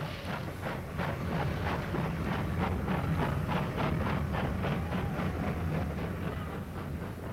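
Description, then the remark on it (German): A large steam locomotive of a train bound for Budapest pulls away with loud, steady hissing and a regular rhythmic puffing of chuffs, a continuous roar of steam underneath, and no voices. “Und wirklich, mit mächtigem Fauchen und Prusten, zog die große Lokomotive wieder an.”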